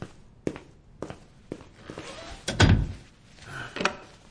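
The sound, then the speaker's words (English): A few soft, evenly spaced footsteps lead up to a heavy wooden door thudding shut, followed by a couple of faint metallic clicks as it is locked. “You have to lock the door first.”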